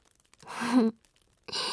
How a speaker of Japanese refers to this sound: あくびをしよる。